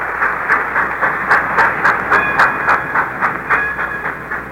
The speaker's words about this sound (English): Have you ever visited a railroad freight yard? It's a fascinating sight, and in a very real sense, the focal point of a stronger America.